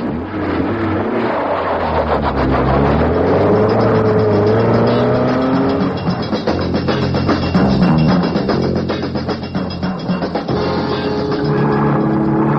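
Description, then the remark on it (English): A police car's engine revs loudly and roars off in pursuit of another car carrying three men, its pitch climbing and falling through gear changes as it accelerates away, with no talking over it. “Sergeant, get this car round and after them.”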